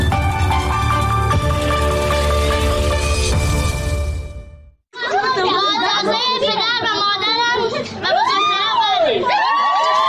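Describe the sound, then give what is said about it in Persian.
Loud festive music plays for several seconds, then after a brief pause a close, dense crowd at a wedding celebration cheers and shouts, with children's voices and whoops mixed in. “جشن ازدواج دختری که گفته می شود 14 سال سن دارد.”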